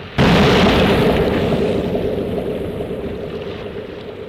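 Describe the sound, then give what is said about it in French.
A single explosion bursts in abruptly, used as a censorship sound effect, then a deep, loud rumble rolls on and slowly fades over several seconds, with no voices present. “Censure.”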